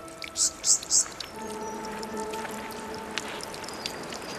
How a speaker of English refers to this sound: Oh, wow. Yeah. The waterfall's just getting blown back upwards. Yeah. Yeah, I've never seen the waterfall fall straight down into the valley. It's always blowing this way or that way. Just a spectacular sight.